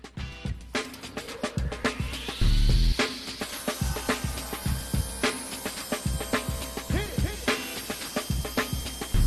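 A circular saw whines as its motor spins up, then bites into wood with loud, harsh bursts of cutting noise and repeated clattering knocks, continuing without pause and with no talking.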